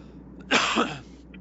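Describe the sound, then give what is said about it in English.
A single cough bursts out sharply, a broad rasping blast lasting about half a second with a brief throaty second push, surrounded by quiet background noise and no talking. “another cough in between there.”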